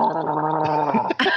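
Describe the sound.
A person imitates Chewbacca from Star Wars as a clue in a quote-guessing game, with a sustained, warbling, throaty growl that wavers in pitch, breaks briefly, then rises into a harsher, higher roar at the end.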